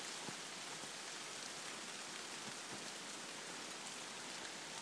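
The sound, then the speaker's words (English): Steady rain pours down on trees and grows heavier, heard from beneath the trees. A dense, even hiss of drops patters on leaves and ground, with occasional louder individual drips standing out. No voices, just continuous rainfall. “I will leave this on, actually, just while the rain increases.”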